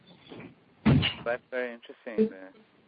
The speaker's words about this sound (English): Just close the door, there's some noise.